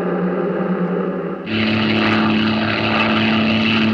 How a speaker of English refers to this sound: I'm flying this plane alone and descending to 20 feet as I approach field 14. There's a hopper under my seat, holding a half ton of rice seed.